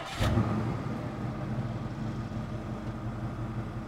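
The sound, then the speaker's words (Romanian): A car engine turns over with a brief burst at the start as they set off for a drive, then settles into a steady, low rumbling idle without any talking. “Vom face o plimbare cu mașina.”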